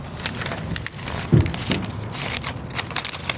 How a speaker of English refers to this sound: Brazelton puts a paper label on a collard.